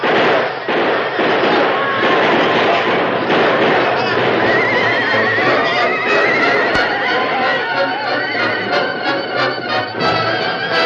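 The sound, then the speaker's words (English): A dense, loud rush of galloping hooves as a sheriff's posse and townsmen ride down on attackers by a train, horses neighing and whinnying, joined by sharp crackling bursts of gunfire, all blended into a continuous chaotic charge. “Sheriff and the posse raced down on the attacking Indians. A score of townsmen rode with the lawmen, bearing guns and fighting hard.”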